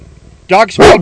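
A female dog lets out two loud barks on command in quick succession after a quiet moment, the second one longer and slightly drawn out, almost like a throaty woof.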